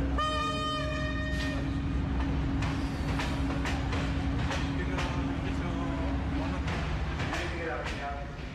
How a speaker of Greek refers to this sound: Το ένα έχει ξεκινήσει περίπου στις 9.30 το πρωί από τον σιδεροδρομικό σταθμό Αθηνών, τον σταθμό Λαρίσης, και κατευθύνεται προς τα βόρεια, προς τη Θεσσαλονίκη. Είναι μια αμαξοστοιχεία που μάλλον βραδυπορεί.